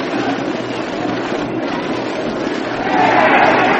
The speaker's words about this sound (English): Now Mayo tries to sneak behind Livingston at second. The crowd warns him.